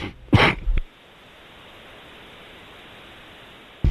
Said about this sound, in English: Sorry, I was coughing.